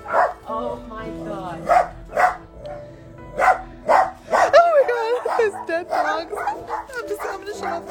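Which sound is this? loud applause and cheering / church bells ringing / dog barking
dog barking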